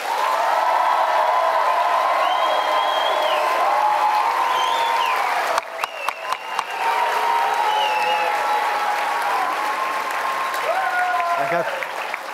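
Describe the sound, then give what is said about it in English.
Loud, sustained audience applause with scattered whoops and rising whistles, as the audience votes by applause for the dog side in a dogs-versus-cats debate, holding steady for about twelve seconds, with a short burst of sharper, distinct claps partway through. “First, we will hear, in purely applause terms, we will hear from the dog side and then the cat side.”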